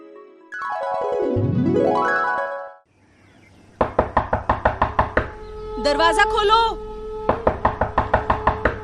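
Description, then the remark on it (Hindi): A village ASHA health worker knocks loudly and rapidly on a house's wooden door in two insistent bursts of about eight to ten blows each, with a raised voice calling to open the door between them, after a swooping tonal sound at the start. “दरवाजा तोड़ने का इरादा था क्या?”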